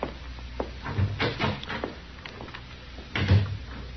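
door opening and closing

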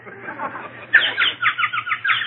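birds chirping

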